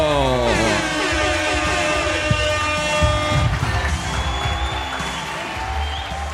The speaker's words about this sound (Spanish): Fuerte aplauso